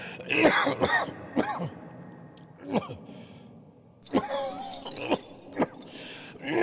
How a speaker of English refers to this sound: How long have you had that cough?